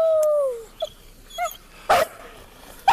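A dog attacking and biting: a drawn-out whine sliding downward, two short high yelps, then a loud, harsh snarling burst and a final sharp yip, with no talking.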